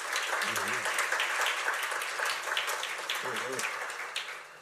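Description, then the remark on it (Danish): A crowd at an annual general meeting claps steadily for several seconds to accept the board's report, a dense, even patter of many hands that eases off toward the end, with a couple of brief voice murmurs underneath. “Hvis nu forsamlingen klapper, så har vi taget bestyrelsesberetning til efterretning.”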